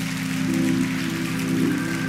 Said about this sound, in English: Amen, church. Come on, give the Lord a hand clap of praise. God bless you. God bless you.